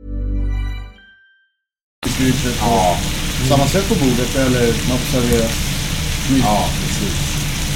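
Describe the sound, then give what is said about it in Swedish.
After a brief silence, food sizzles loudly in a frying pan, a steady crackling hiss that continues throughout, with voices talking faintly underneath. “Ja, jag hoppas ni hör alla lyssnare hur det fräser.”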